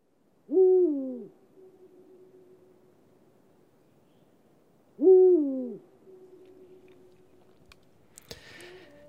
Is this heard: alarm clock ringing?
no